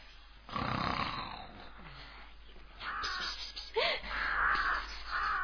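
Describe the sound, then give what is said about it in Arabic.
Loud, raspy snoring of a hedgehog in deep sleep on a farm, in two long drawn-out breaths, the second rougher and more rattling, with no talking. “إنه يشخر، لابد أنه يحلم بمزرعة كرنب لذيذة.”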